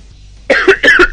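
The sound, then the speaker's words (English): A harsh, forceful coughing fit, two loud raspy bursts in quick succession after a brief quiet moment, with no talking. “there's going to be a severe cough.”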